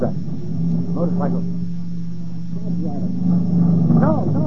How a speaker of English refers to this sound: What's that? Motorcycle. No.